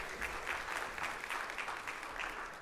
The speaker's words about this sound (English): We give him a round of applause as he makes his way up here.